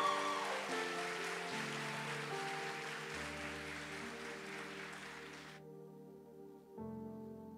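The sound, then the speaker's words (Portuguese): A church audience breaks into dense, steady applause for God over sustained keyboard chords; the clapping stops abruptly after about five and a half seconds while the held chords continue and shift. “Você pode aplaudir esse Deus fiel?”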